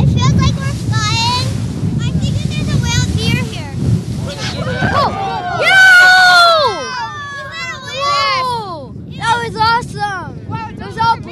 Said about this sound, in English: Then the boat speeds up.